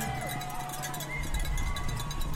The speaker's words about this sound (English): Between the traffic sounds, merchants rolling up their gates, and lively Brooklyn sidewalk banter, you might hear marathon cheers.